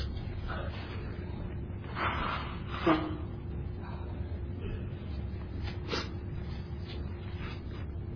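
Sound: blowing nose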